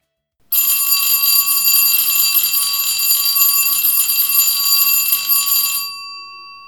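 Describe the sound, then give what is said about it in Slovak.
A loud electric bell rings continuously for about five seconds with a harsh metallic clatter, then cuts off and leaves a brief fading hum. No one speaks. “Nie, nezvoní na koniec hodiny, nebojte sa, ešte sa budete krásne ďalej učiť.”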